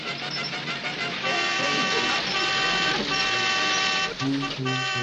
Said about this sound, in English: Look, there's a house. Let's pull in and get help. I'll honk the horn.